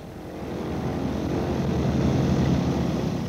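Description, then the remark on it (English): A jet aircraft roars overhead, its dense, steady engine drone swelling slightly louder over a few seconds before holding steady. No voices, just the continuous rumbling noise of the plane. “The last attempts to force a change of fortune, the much acclaimed jet.”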